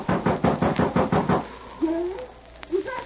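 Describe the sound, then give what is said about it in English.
Rapid, heavy pounding on the locked door of a house on the edge of a small town, about seven or eight closely spaced, loud blows in an urgent rhythm, then a few faint, muffled vocal sounds in the quiet afterward. “Ma, in the name of heaven, Ma, unlock the door.”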